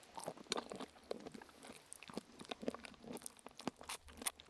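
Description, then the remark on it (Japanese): Crunchy chewing, a steady run of crisp bites and crackling munches repeating irregularly throughout, fairly quiet with no talking. “もぐもぐする音はあんまり入んないかも。 入ってる、全然入ってる、普通に入ってる。”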